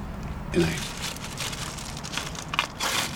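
household object, plastic bag crinkling

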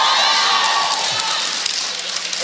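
crowd, audience clapping and cheering

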